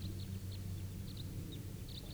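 A big wild flock of about 17 to 20 birds gives faint, short, high-pitched chirps, scattered irregularly over a steady low rumble; no one speaks.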